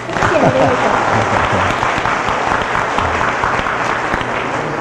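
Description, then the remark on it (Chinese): A church audience claps in thanks to God, a dense wash of many hands sustained at an even, fairly loud level for about five seconds, with faint voices mixed in at the start. “拍手。”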